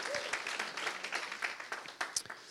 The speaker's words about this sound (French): merci à l'équipe de louanges aussi pour ces beaux chants. Merci, on peut les applaudir, hein. Merci beaucoup, bravo.